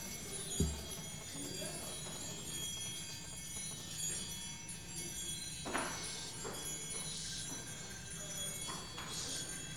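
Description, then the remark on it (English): Small bells, rung by children to open a service, ring and jingle in scattered, irregular bursts over a steady hum of room noise, with a few soft knocks. The ringing is fairly quiet. “we will open with the ringing of bells.”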